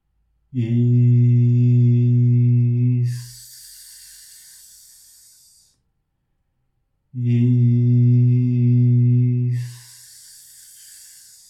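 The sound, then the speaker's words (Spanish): A lone voice chants the mantra "Isis" twice, each time holding a steady, droning vowel that slides into a long, bright hissing 's', dividing it into two long syllables, with a brief silence between the two loud utterances. “De frente, levantando las manos con las palmas extendidas, vocalizaba tres veces el mantra Isis, dividiéndolo en dos largas sílabas así.”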